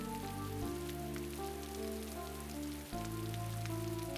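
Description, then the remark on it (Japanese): Steady, dense heavy rain hisses continuously as the weather suddenly breaks, with a sustained tonal drone underneath that shifts pitch partway through. No one speaks. “その時私の心を表すように突然天気が崩れ始めた。”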